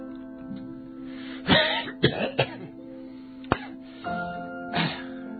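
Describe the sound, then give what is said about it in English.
A string of rough throat clearings and short coughs before going on air on the radio, about five harsh bursts spread over several seconds, one of them a sharp single cough, over a steady low electrical hum with no talking. “So clear any phlegm out of your throat before you go on the air, because it sounds awful if you have like a oh yeah, like a crunchy throat.”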